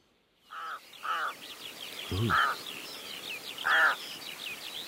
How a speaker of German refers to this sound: Da kräht. Das ist fast froschig an, finde ich. Ja, was für ein Frosch? Ist ein Vogel. Der kräht gerade